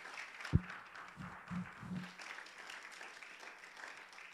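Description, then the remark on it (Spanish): A crowd claps steadily as an applause to the Lord, in a dense, continuous patter of hands, with a few louder low thumps near the start, sustained at moderate volume throughout. “Dele palmadas al Señor, dele un aplauso.”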